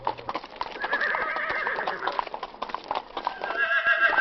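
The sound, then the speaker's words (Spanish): A horse whinnies loudly with a long, quavering neigh while hooves clip-clop steadily underneath, clear, ending in a rapid trot of hoofbeats. “Hoy también nos adentramos en el hermoso mundo del caballo con Agustín Aragón, miembro de la Asociación Andaluza de Criadores de Caballos de Pura Raza Española”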